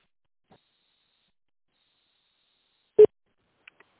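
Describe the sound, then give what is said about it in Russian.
A single short telephone beep on the Adapt group of companies' phone line, a brief mid-pitched tone, sounds once in otherwise near silence, followed by a couple of faint clicks. “Если вам известен внутренний номер сотрудника, после гудка наберите его в тональном режиме или дождитесь ответа секретаря.”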